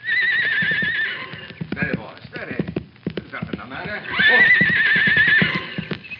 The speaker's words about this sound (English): Hey, here he comes. I get down and out of sight. Let the horse get a little bit past so he won't rear up. Now keep quiet.